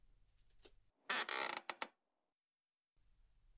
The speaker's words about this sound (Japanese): はい、少し椅子を起こしますね。